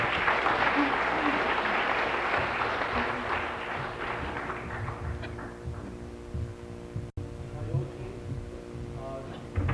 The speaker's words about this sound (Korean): 오늘 미문선교회 중창단 귀한 찬양 들려주신 것 감사드리고요. 다시 한번 뜨거운 박수 부탁드리겠습니다.